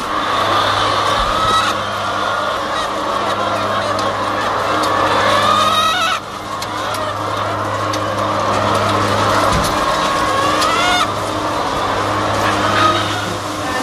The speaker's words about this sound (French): Les chaînes d'alimentation se remettent en route quotidiennement dans la journée et elles vont manger et boire. Donc dès qu'elles entendent la chaîne d'alimentation, elles rentrent pour aller.